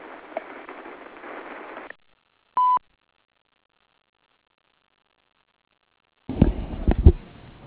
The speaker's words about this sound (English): Please leave a return number and we will return your call as soon as possible. Thanks for calling and remember to wait for the beep.